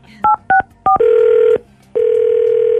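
Three quick touch-tone beeps of a phone being dialed to call a neighbor back, followed by two long, steady buzzing ring tones separated by a short pause, with no voices.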